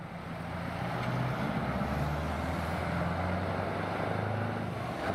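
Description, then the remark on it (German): Heavy road traffic in Switzerland rumbles steadily, with the deep droning engines of trucks, semi-trailer trucks, delivery vans and buses passing continuously. No voices can be heard. “Lastwagen, Sattelschlepper, Lieferwagen und Busse. Der Schwerverkehr in der Schweiz nimmt zu.”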